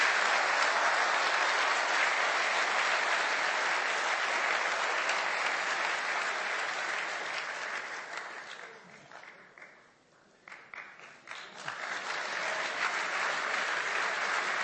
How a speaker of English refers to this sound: Now, I'd like to thank the people who made this forum possible. And in the first place, that are the guests. I'd like an applause for John Lennox.